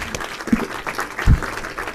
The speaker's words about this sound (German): Na gut, ich freue mich auf deinen Talk. Ein Applaus.